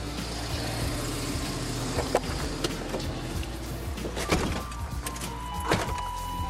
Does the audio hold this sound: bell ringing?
no